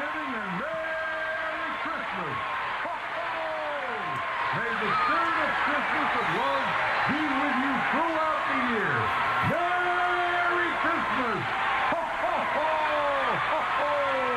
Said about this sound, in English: How weird. It's just people yelling. Is that the whole thing?